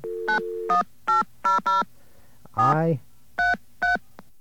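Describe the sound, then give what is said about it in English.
A short steady fake telephone dial tone gives way to a quick series of beeping touch-tone keypresses, about eight evenly spaced bursts with a brief warbling sweep in the middle, loud. “That was a fake dial tone, by the way.”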